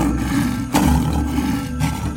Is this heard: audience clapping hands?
no